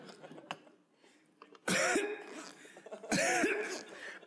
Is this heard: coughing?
yes